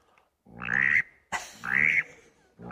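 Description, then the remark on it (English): Two loud, raspy, buzzy quacks blown on a duck call, imitating a mallard drake, each about half a second long with a short pause between, and a third just beginning at the end. “Here's the old green head, the old mallard drake. Now, the hen, this is the hen. And the mallard drake is like this.”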